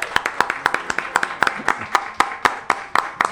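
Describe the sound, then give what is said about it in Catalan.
Steady, rhythmic clapping welcoming the day's guest to the live desk of the show Caverna Galàctica, about a dozen sharp claps in quick even succession rather than a dense crowd roar, with a faint voice underneath. “Yeah, un fort aplaudiment.”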